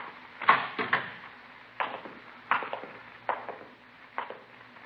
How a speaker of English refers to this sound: Now, this is his room. You want to open the door?